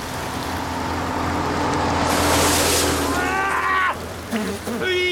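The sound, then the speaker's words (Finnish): Heavy rain pours down late in the day in a dense, steady hiss that swells louder midway, with a few short tonal sounds cutting through near the end. “Ikävä kyllä se osoittautuu näin myöhään ja tällaisessa sateessa varsin vaikeaksi ja tuloksena onkin vain.”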